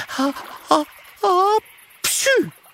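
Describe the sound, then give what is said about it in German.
A voice acts out a sneeze: three short, rising breathy build-ups followed by a sharp, forceful burst, with no other sounds around it; a story character with a cold sneezing suddenly. “erwidert Mathilda und muss plötzlich niesen”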